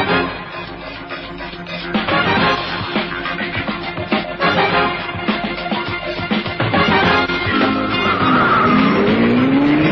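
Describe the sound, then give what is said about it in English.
A loud, continuous car chase: engines roar and rev throughout, and tires screech in rising, whining skids, with the sharpest squeal near the end. No one speaks. “I've been in some car chases and the like in my lifetime, but this took a flipping cake.”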